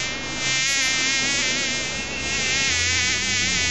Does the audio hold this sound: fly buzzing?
yes